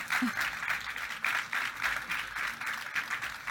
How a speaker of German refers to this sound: Ja, Applaus.